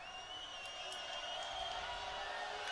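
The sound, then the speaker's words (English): A dense, steady roar of a large stadium crowd at an American football game between the Cavemen and the Saxons, anticipating the play during a long snap count, broad and continuous with a slight swell in the middle, no single voice standing out and no clear cheer or applause. “You can hear the crowds beginning to anticipate what?”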